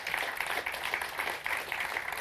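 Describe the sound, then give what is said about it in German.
An audience applauds two speakers steadily, a dense wash of many hands clapping at once with no breaks, moderately loud and sustained throughout. “Und damit höre ich auch auf zu reden und bitte nur noch um eine herzliche Runde Applaus”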